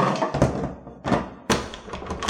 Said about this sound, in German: Treppenhaus. Ich muss die Tür versperren mit dem Stuhl.